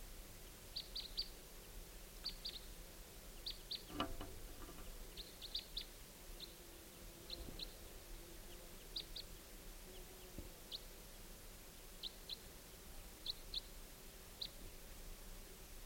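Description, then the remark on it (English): Two birds chirping around 5:30 p.m., with short, high-pitched calls repeating irregularly throughout, fairly faint over a quiet outdoor background, with no voices present. “bird coming in about 5:30 p.m. I have two birds.”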